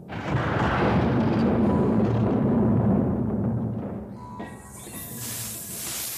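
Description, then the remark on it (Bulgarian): Two snakes fighting, one black and huge, the other white and tiny, hiss loudly and harshly in a thick, continuous rush for several seconds, then the sound thins into a quieter, breathier hiss with faint whistling tones near the end. “Змии бият се.”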